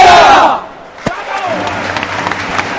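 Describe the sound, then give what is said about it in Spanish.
Players of a Valladolid handball team in their last huddle of the season shout a loud unified "Pucela" battle cry, then break into scattered cheers and claps with crowd noise behind. “Ese grito de Pucela.”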